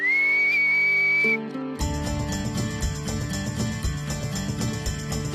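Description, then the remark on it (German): A person whistles to call horses on their pasture: a single steady, high-pitched whistle holds for over a second, then cuts off and gives way to a loud, dense wash of layered tonal sound. No one speaks. “Schau mal, ob es kommt, wenn ich pfeife.”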